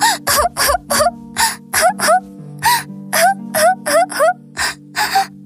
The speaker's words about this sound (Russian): … очень расстроилась и расплакалась.